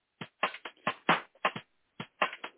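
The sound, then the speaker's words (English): Irregular bursts of dry crinkling as thin rolling paper is crumpled by hand to give it texture before rolling herbs, about a dozen quick crackles over a couple of seconds with brief pauses between them, no voices. “good to crumple your paper.”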